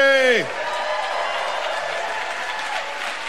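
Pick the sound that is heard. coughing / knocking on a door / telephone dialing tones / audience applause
audience applause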